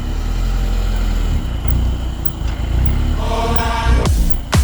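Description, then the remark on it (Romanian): A 2-litre, 184-horsepower naturally aspirated petrol car engine, started with the start button, idles with a steady, low, nervous rumble, then rises briefly in pitch near the end, punctuated by a couple of sharp, loud bursts. No one speaks. “Când apeși butonul de pornire, motorul urlă pentru câteva secunde, apoi urletul se transformă într-un mormăit nervos al motorului de 2 litri și 184 de cai putere pe benzină.”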